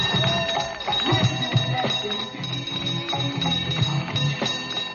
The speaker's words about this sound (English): On the 19th of June, San Francisco held its annual cable car bell ringing contest.